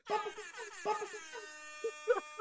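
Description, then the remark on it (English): A loud DJ air horn sound effect blares in a rapid series of stuttering blasts, brassy and buzzing, with short bursts repeating in an uneven rhythm. “But I know that you were throwing the DJ air horns, and I appreciate it. And I'll be your sound man.”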